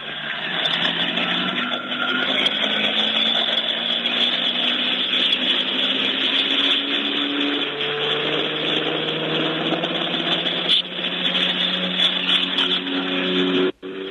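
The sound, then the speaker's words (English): Loud, continuous roar of Apache attack helicopters passing overhead, a dense mechanical drone with engine tones slowly rising and falling in pitch, heard through a narrow, muffled channel with no voices. “Those were the Apache attack helicopters”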